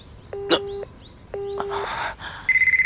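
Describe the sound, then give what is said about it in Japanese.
An answering machine beep: a steady, high electronic tone at the end, after two flat mid-pitched tones and a brief burst of noise. No one speaks. “ビーって音が鳴ったらメッセージを入れとけ。”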